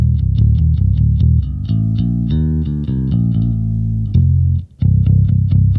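Electric bass played with an overdrive pedal on, gain set below 20%, a gritty, distorted tone thumping out repeated rhythmic notes and sustained chords, loud, with a brief dropout before the riff resumes.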